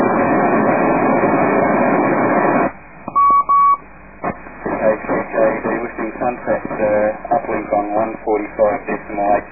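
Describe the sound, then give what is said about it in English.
Radio static hisses, then a single steady beep tone sounds for under a second on the 145.825 uplink before a voice starts talking over the narrow, band-limited transmission. “… listening sunset, uplink on 145.825 after the single beep.”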